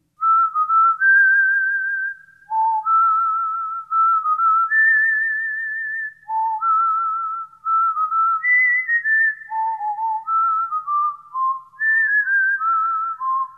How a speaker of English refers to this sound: That's a catchy little tune. All right, that was really nice.